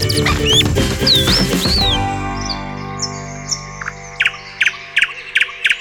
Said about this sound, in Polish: Słowiki częściej odzywają się w nocy niż w dzień. Dlaczego tak się dzieje? No, rzecz jest prozaiczna. Słowiki dlatego śpiewają w nocy, ponieważ samice lecą w nocy.